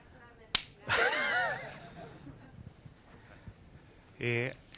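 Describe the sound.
A single sharp finger snap cracks out clearly, made to show how long an estimate is good for, followed by a voice speaking in animated, rising and falling tones, then a brief burst of more talk near the end.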